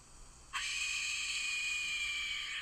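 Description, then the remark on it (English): A skull-shaped death whistle is blown once, letting out a sudden, loud, shrill scream that holds steady and harsh for about two seconds, breathy and rasping like a human shriek. “It sounds like a lady screaming in like a haunted house.”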